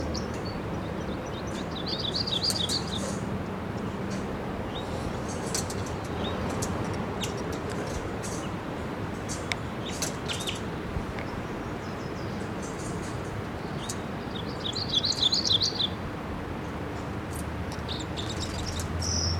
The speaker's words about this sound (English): Start trying to head across, go fly in here, and I hear it chittering in the camp. Somewhere out here, here it is. It's a red male. And it's in the ponderosa pine above the nips. About 50 feet up.